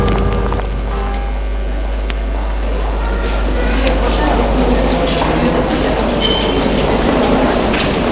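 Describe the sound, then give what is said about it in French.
A metro train rumbles at a station platform, a loud, steady low roar with thin metallic whines above it, while indistinct voices murmur in the background. “Alors il essaie de dormir dans un quai de métro.”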